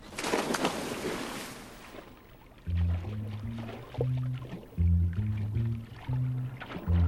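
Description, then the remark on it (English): A single burst of splashing water as a young man dives into a small swimming pool at the rear of a motel, fading over a couple of seconds. Low, steady tonal notes then repeat in short stretches. “The young man tosses his towel onto a sun lounger and dives into the water.”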